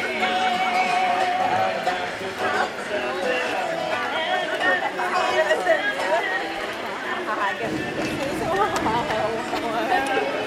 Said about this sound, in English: Some of the background from Fantasyland as we walk from Matterhorn towards Frontierland.